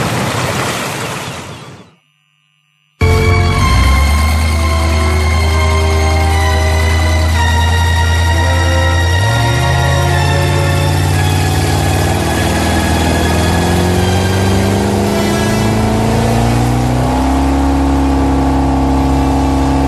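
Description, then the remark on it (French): A loud engine starts after a short burst of noise and a brief silence, then runs steadily with a droning hum whose pitch climbs gradually as it revs up, continuous. “Ils ne peuvent pas suivre le moteur.”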